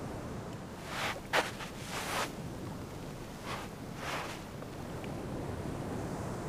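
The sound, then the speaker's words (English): Soft ocean waves wash in as the sun sets over the ocean, a few gentle swells rising and receding over a steady low rush of wind-like noise, with no voices present. “The sound of the ocean and the sun setting over it, it's a rather calming sight.”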